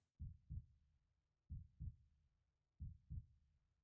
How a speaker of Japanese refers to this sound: こうやってあんたの体温が私に移っていくのを感じると不思議となんかドキドキしちゃうわ。心拍音が聞こえるぐらいがちょうどいいわ。